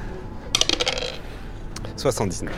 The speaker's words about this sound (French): Vas-y, lance les dés.